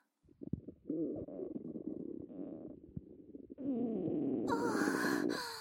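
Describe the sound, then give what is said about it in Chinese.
Continuous intestinal gurgling from a belly filled with gas let in through a tube, bubbling and rumbling for several seconds, swelling louder and harsher toward the end with a squelchy, hissing edge. No voices are heard. “肠子里发出的声音就像放屁一样呢。”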